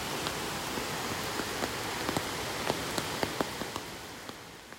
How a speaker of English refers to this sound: Believe it or not, the sun has come out. It's still pitter-pattering with rain, so if the tree canopy wasn't surrounding us, we may even be able to glimpse the sight of a rainbow.